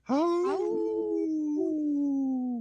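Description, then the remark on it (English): On the radio show Native Roots Radio Presents I'm Awake, people imitate a wolf howl together, their voices rising in a strained, wavering onset before settling into a long, loud, sustained tone that slowly drifts lower in pitch over a couple of seconds. “Oh, that was a weird howl from me. We were in harmony there.”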